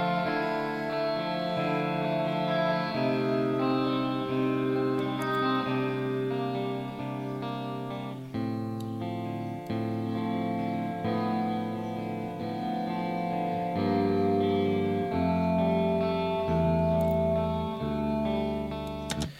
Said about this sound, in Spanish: los Spring Reverb es la señal pasando por unos resortes. Y la vibración es pues tu reverb, ¿ok? Entonces, Literal, hay un resorte adentro del amplificador.